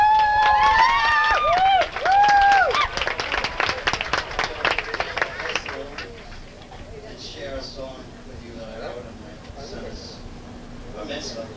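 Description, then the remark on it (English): An audience claps and whistles for several seconds to welcome a singer about to perform his own song arrangement, a dense burst of applause that fades out as a man starts speaking over the room. “So let's hear a nice round of applause”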